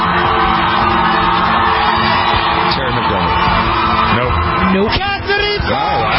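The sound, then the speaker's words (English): A voice imitates a crowd of screaming 13-year-old fans in an audience, sustained shrieking and whooping that stays loud and dense for several seconds with a brief dip near the end. “I'm screaming 13-year-olds in the audience.”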